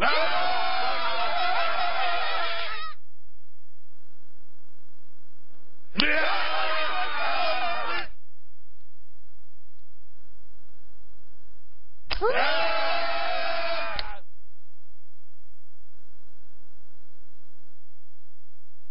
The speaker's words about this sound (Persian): صدای داد زدن میاد. تا خاموش بگم صدای داد زدن میاد.